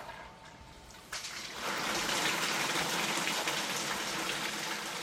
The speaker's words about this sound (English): The work will have a shower of water raining down as a backdrop, and that's what Larson's working on. Yeah, I'm right now trying to tweak the water to do what I hope it will in the end. So yeah, here's what we got so far.